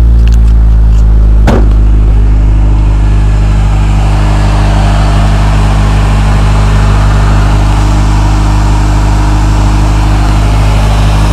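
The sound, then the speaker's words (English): An automatic pickup truck engine idles with a steady, loud, droning rumble throughout, broken only by a single sharp click near the start. “I got nothing. Truck runs fine though.”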